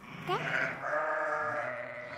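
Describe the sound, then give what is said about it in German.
Sheep bleating, a few overlapping wavering bleats from a group of ewes with their lambs around a shepherdess, one higher call rising over a longer, steady bleat, with faint flock noise underneath. “Sie steht in einer Gruppe Mutterschafe mit ihren Lämmern”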